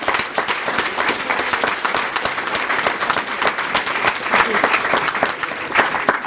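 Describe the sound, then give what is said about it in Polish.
Steady applause from a crowd at an event, thanking the speakers and organizers: dense overlapping claps filling the whole stretch at an even, fairly loud level with no voices on top. “chciałabym najpierw bardzo, bardzo podziękować naszym prelegentom i osobom, które zaangażowały się w dzisiejsze wydarzenie, więc wielkie brawa.”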